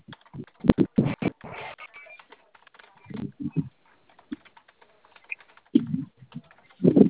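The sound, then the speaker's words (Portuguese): Rapid keyboard typing in short irregular bursts of clicks as a verification code sent to a phone is entered, with a few pauses between clusters, moderately loud, with no talking. “O senhor vai colocar esse código aí, não precisa me dizer. Coloca o código, clique em continuar.”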